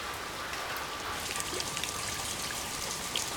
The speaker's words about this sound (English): A note on the experience of hearing rain falling. This evening, I came out the front door of the house and it was raining.